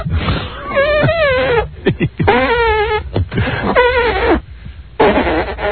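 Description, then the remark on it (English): Wet, squelchy armpit farts made by a contestant making music with a cupped hand wetted with Evian spring water. A rapid run of bursts with wavering, bleating pitch, loud and mostly on their own, with short pauses between. “We will give all of the contestants a chance to make music with their armpits.”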